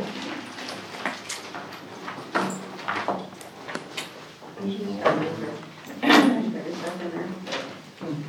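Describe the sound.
A drawer, thought to be missing screws, slides open and shut a few times in a row with scraping, rattling bursts, while people talk in the background.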